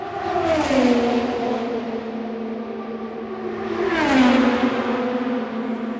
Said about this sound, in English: And these are Indy cars going around the track during the race at top speed over 200 miles an hour at the Indianapolis 500.